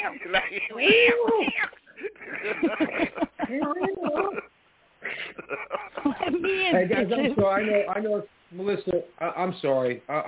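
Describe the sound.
Drawn-out, wavering cat meows come up several times, fairly close and loud, mixed in with people talking and laughing over them.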